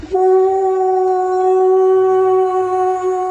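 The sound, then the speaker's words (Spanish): An animal horn blown hard by an Arab man in one long, loud, unbroken blast, holding a steady, bright, piercing pitch for over three seconds, echoing through a valley toward the desert, with no voices. “El árabe empuña un cuerno entre sus manos, lo lleva hasta los labios y sopla con fuerza.”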